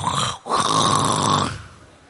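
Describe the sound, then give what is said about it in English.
A person mimics snoring with their voice: two rough, buzzing snore sounds, a short one then a longer drawn-out one, fairly loud, fading at the end. “You know, snoring is the same in English and Korean, right?”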